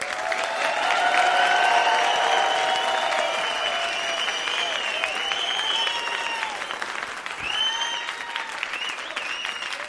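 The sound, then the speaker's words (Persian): An audience breaks into sustained applause, a dense steady clatter of many hands clapping at even loudness for the full stretch, with some whoops and voices mixed in. “اگه تشویقت کردن حسابی من بهت کارت سبز میدم.”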